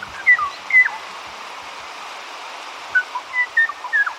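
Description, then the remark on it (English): Song of the Kauai O'o, a bird of the high, dense forests of Kauai: a few clear, flute-like whistled notes in two short bursts separated by a pause, heard over a steady background hiss. “The tranquil song of the Kauai O'o graced the high-dense forests of Kauai until 1987, when it was heard no more.”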